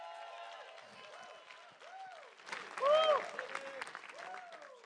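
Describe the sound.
An audience applauds a man being introduced by the speaker, with steady hand clapping that swells midway and peaks briefly, mixed with rising and falling whoops and cheering voices over the clapping throughout.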